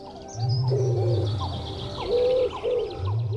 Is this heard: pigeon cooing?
yes